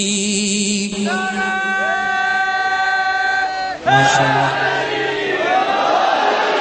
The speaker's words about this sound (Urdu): جتنی طاقت کے ساتھ برادران نے نعرہ لگایا, اتنی طاقت کے ساتھ اپنے جواب نہیں دیا. تمام برادران وہ دوبارہ نعرہ لگائیں تاکہ پورے مل کے ہاتھوں کو بلند کر کے جواب ملے.